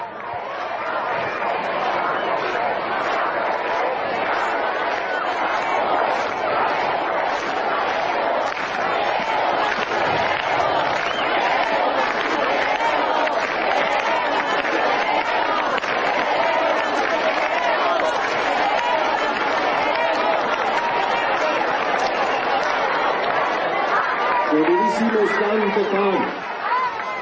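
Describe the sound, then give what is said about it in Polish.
A large crowd of Paraguayan young people shouts a chant together during Pope Francis's visit to Paraguay, forming a dense, steady roar that stays loud for the whole stretch, with a single louder voice rising briefly near the end. “I słyszymy ten znany już krzyk, okrzyk. To jest właśnie młodzież papieża.”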